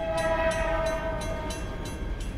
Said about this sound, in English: An 1898 train crash that killed two men behind where the brewery is now, for example. Brewers say they can sometimes hear a train rumbling and screaming at the time of day the accident happened.